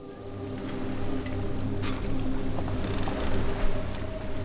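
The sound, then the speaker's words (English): A boat's steady engine drone and hull rumble carry over rushing water as it heads out into the open ocean at sunset, with occasional splashes and a faint breeze, continuous throughout, no voices present. “Night was coming on, and they were headed out into the open ocean.”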